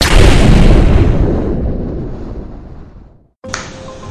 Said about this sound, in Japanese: 今チュドーン入ってますからね。 キュンみたいな。 キュンみたいな。チュドーン。